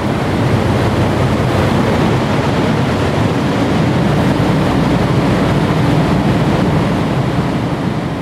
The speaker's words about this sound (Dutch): En ik kwam daar aan, ik stapte uit de auto en ik hoorde eigenlijk meteen het gonzende geluid van... Nou ja, het zijn ook hele grote ventilatoren. Dus ja, stel je tafelventilator voor, maar dan veel groter en met veel meer lawaai.